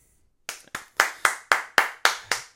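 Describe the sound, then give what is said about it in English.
Hands clap in a steady, even rhythm, about nine crisp, bright claps in quick succession, fairly loud and with no talking over them, after a brief moment of silence. “have an applause. I appreciate that.”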